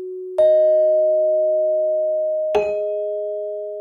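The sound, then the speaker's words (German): Two clear bell-like chimes marking entries added to Wikipedia, one near the start and another about two seconds later, each with a bright strike and a long, steady ringing tone that sustains and slowly fades. No voices. “Die einzelnen Töne, die dabei entstehen, sind so Glockenklänge. Die markieren immer, wenn ein Eintrag hinzukommt.”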